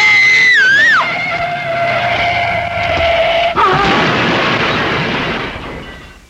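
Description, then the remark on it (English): A shrill, wavering screech settles into a steady high whine, then a loud crash hits as a car whose brakes are not working slams into a tree, followed by a few seconds of rough crunching noise that fades out. “It was a tree we hit.”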